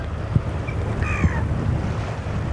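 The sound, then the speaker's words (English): Steady outdoor shoreline ambience of the Baden Sea at low tide at Wilhelmshaven at sunrise, with a low, continuous wash of water and wind rumble, broken by a couple of soft thumps and a few brief bird calls from seagulls and migratory birds eating shells in the mud. “Between the gulls and the sound of the ocean, it almost feels like we're back in coastal Louisiana.”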